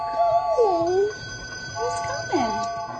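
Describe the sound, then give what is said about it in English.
A baby's computer game, played by hitting keys on the keyboard, rings an electronic train bell steadily throughout, its bright tones holding at a constant pitch while voices talk over it in the foreground. “The train's bell rings, the whistle blows, the headlights come on, and the engine eventually takes off”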